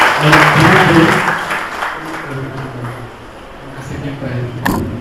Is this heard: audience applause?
yes